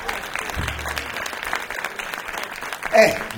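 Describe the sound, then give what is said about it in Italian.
Sustained applause from a radio show's studio audience, a dense wash of clapping at steady volume, briefly swelling near the end. “Qui ci divertiamo e lo dimostriamo ancora con un applauso.”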